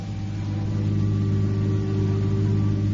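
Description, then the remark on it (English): A car engine, the car in which the butler George met Steve at the airport, hums with a steady, low droning note throughout, fairly loud, holding an even pitch and level for the whole few seconds with no voices. “No one knew of it, only George the butler, who met him with a car at the airport.”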